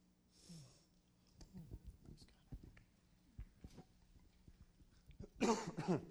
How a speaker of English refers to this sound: Bear with me, I've had a cough. I think I can get through this.